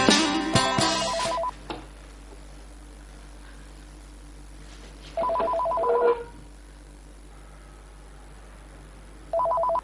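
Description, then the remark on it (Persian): A telephone rings in repeated electronic trilling bursts: one at the start, another around the middle, and a third beginning at the end, with quiet room hum in the gaps and no talking. “خراب شده، هیچ کس به جز من نیست که جواب این تلفن وامون در بده.”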